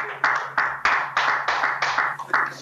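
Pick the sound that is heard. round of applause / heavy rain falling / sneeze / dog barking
round of applause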